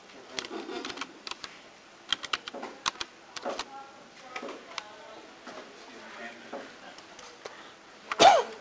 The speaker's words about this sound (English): Sneeze video?